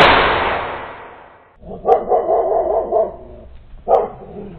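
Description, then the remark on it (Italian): A sharp burst of noise, a dry detonation, fades out, then a dog named Punti gives a drawn-out, mournful bark followed by another shorter howling bark, fairly loud with no one speaking. “Una secca detonazione giunse ai suoi orecchi, seguita dall'abbaiare lugubre di punti.”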